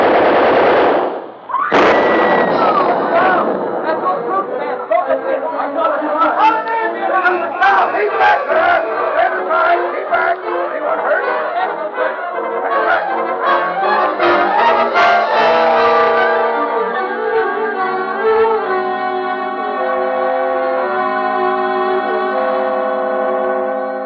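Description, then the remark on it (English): A gun fires in long, rapid rattling bursts that run almost nonstop, loud and sharp, while shouting voices rise and mingle beneath the clatter. “Think I'll unlimber the gun on that place, too.”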